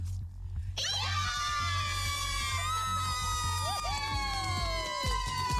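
After a brief hush, loud, shrill screaming and excited cheering burst out and carry on for several seconds, sustained, with the pitch of the squeals wavering and dipping.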